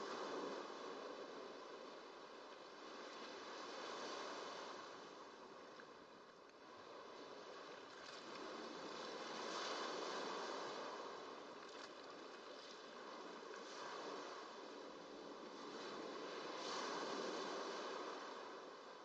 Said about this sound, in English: Calm and tranquil. Lulled by the movement of the surf.